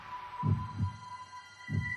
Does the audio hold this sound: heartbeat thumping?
yes